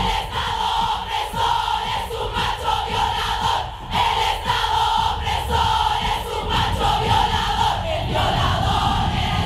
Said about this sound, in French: Imaginez, des milliers d'entre elles sont réunies, bandeau noir sur les yeux, poings levés, hurlant leur colère contre le patriarcat, contre cet État oppresseur qualifié de violeur macho.